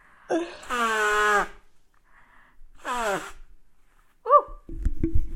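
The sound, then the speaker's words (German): Someone blows their nose in two long, loud honking bursts that slide downward in pitch, followed by a quick sharp snort and a short rough rustle at the end. “Und ich muss mir vorher noch mal die Nase putzen.”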